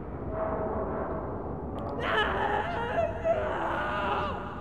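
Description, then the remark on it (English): A faint human scream rises out of steady background noise, a wavering high cry that swells and fades over a few seconds. “The scream. Can you hear it?”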